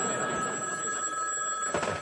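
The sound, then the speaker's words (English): An old-fashioned bell on a newly installed telephone rings steadily with a bright, sustained metallic trill, fairly loud, with no voices over it. “Good work, Mr. Bell. You've done it again. Well, you've got your phone.”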